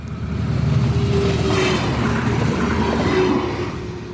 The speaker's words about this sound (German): Der Zug durch Würgassen. Wohin fährt er? In welche Richtung? Weser. Beverung. Richtung Beverung, genau.